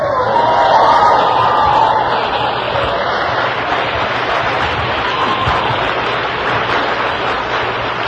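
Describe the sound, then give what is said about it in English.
A sustained wash of audience applause, a loud, dense patter of many hands clapping that holds steady for several seconds, slightly stronger at the start, with no voices heard. “I don't want too much applause.”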